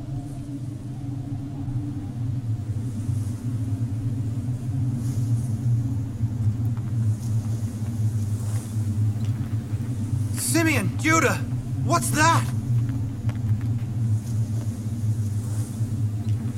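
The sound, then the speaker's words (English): A deep, steady rumble of an approaching storm rolls on throughout, low and continuous, while people speak over it and a voice rises sharply near the end. “It's a storm. We have to take shelter.”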